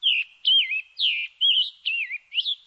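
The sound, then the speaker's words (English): A scarlet tanager sings a run of six short, slightly hoarse warbled phrases at a steady, evenly spaced rhythm, clear with no other sounds around it. “The scarlet tanager's song holds a similar tune, but this bird sounds a little hoarse.”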